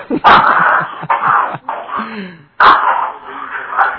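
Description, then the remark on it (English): Dogs whine and bark in a room, with short broad bursts and moaning tones breaking up a few seconds of restless noise, no clear speech. “Now we're gonna pretend we didn't hear the dogs, and we're gonna start right now.”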